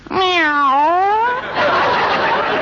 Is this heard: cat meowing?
yes